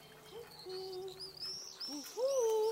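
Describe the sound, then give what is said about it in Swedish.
Several soft, owl-like hoots rise and fall in a short series, clear, with thin high whistling calls drifting faintly in the background. “Då hör vi något som hoar. Hör du ugglan?”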